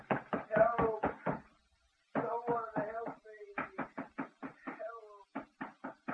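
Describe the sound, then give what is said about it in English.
Rapid, heavy pounding of fists on a locked door in several frantic bursts with a brief pause between them, loud, while a man's voice shouts to be let out over the banging. “Let me out of here. I'll break the door down. Let me out.”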